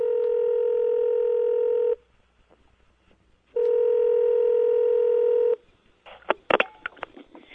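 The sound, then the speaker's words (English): A steady electronic telephone tone sounds twice, each lasting about two seconds with a short silent gap between them, followed by a few sharp handset clicks and rattles as a president places a phone call from Camp David to a former president. No one speaks. “And, you know, on a holiday weekend like this, it might be a time for a president number 43 to make a phone call to a president number 41, don't you think?”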